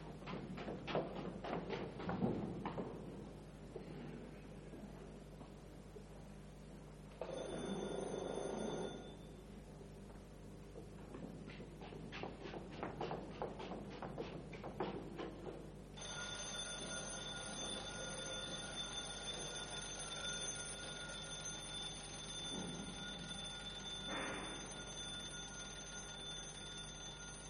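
A mechanical alarm clock bell rings loudly in two long bursts of rapid, clattering strikes with a brief pause between them, followed by a quieter steady background hum.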